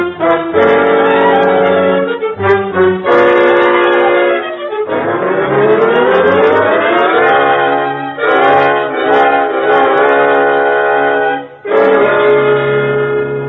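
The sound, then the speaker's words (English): A police siren wails loudly and steadily over a running vehicle, its tone sliding up and holding, with brief dips and breaks, and no one speaking. “You know he just wants to turn on the siren.”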